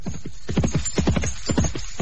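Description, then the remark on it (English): Steady clip-clop of horse hooves, a quick repeating rhythm of hollow knocks, several strikes per second, moderately loud with no voices over it. “Cadwyle chose the best horse from the abbey's stable, called at the castle for official permission to leave the town, and set off across the Welsh Bridge, and so northwest.”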